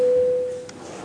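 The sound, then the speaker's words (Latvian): A single steady electronic signal tone, sounded in a parliament before a vote on a bill amending the State Civil Service Law in first reading, holds one pitch for about half a second, clear and prominent, then stops, leaving faint room noise. “Lūdzu zvanu, balsosim par likuma projektu grozījums valsts civildienesta likumā pirmajā lasījumā.”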